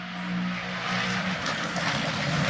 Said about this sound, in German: Ja, das ist doch auch mal schön. Podcast garniert mit rennenfahrenden GT3-Autos.